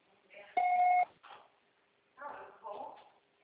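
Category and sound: signal or alarm, voicemail recording beep tone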